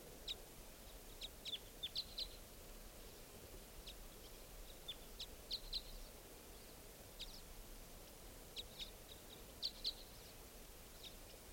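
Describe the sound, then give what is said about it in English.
Birds give short, high-pitched chirps in scattered bursts, some in quick clusters, over a steady soft hiss. The calls are fairly faint, and no one speaks. “There are 4 birds here, at least.”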